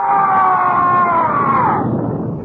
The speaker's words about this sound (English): There was a muffled roar. And a scream from the Brigadier.